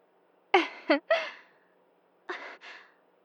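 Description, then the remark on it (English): Heavy, breathy exhalations come in two clusters: three quick, partly voiced gasps, a short pause, then two softer sighing breaths, moderately loud, with silence between them. “Breathing pretty hard.”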